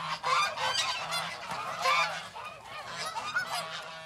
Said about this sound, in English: Feeding time gets the ducks, Canada geese, and black swans all excited.